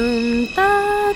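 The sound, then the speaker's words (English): A voice imitates a New York subway departure chime, heard on the platform as the train is about to leave the station, singing steady, pure tones that step upward: a low held note, then a longer higher one, clear with no other sounds. “It's a sound that you hear when you're standing on the platform and the train is just about to leave the station.”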